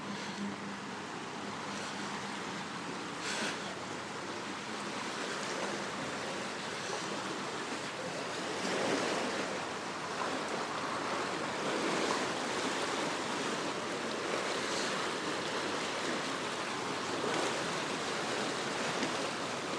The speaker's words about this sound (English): The upstream part of the lock, the door there was partly open, but now he's opened the bottom part. The door has slammed shut, and the water's flowing through very quickly.